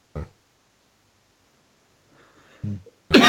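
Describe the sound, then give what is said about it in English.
A man coughs a few times: one short cough, a pause of near silence, then two more sharp bursts, the last one the loudest. “And last but by no means, the man with the cough and the scrapey laptop,”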